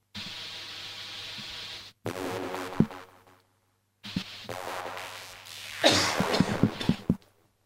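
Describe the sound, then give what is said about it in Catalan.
Several rough coughs burst out in separate spells over a steady hiss of background noise, with a louder, harsher cluster of coughing near the end. “Tenim tos perquè la tos també és real.”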